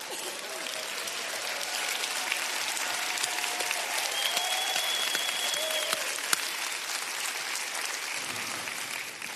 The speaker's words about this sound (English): And I want to wish all of you fathers, if you're a father, would you stand up and let the women all clap for you?